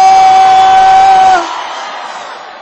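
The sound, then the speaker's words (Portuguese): A large audience shouts together in response to a call to give a shout, a loud, sustained roar lasting over a second, then drops off abruptly into a softer, lingering crowd din that slowly fades. “amigo corno dá um grito.”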